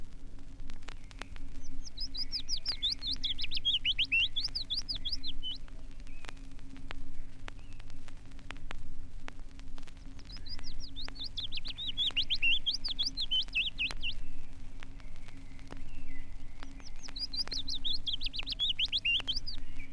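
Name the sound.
willow warbler song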